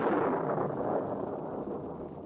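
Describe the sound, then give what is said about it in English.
A loud, booming thunderclap, heard right after the name Magnolia Manor is spoken, rolls out as a dense, broad rumble, holding strong for a couple of seconds before slowly starting to fade. No voices are heard. “Sounds pretty mysterious with that thunderclap right after its name like that, doesn't it?”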